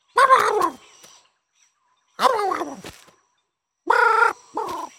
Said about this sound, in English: I'm going to insert that little clip of that bird from Up.